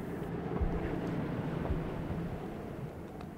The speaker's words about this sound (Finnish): Odotas, eikö tuo ollut moottorin ääntä?